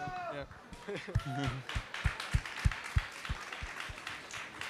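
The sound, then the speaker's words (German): A voice speaks briefly, then an audience breaks into spontaneous applause: a dense stretch of clapping with a few sharper individual claps standing out, moderately loud, lasting several seconds. “Ja, ich glaube, es ist ein Applaus, war.”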